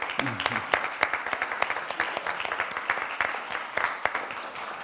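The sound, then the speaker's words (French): A crowd applauds the singers after worship songs, many hands clapping in a dense, crackling patter that holds at an even, moderate loudness throughout, with a faint voice briefly audible beneath it. “Moi, j'aurais envie de vous applaudir.”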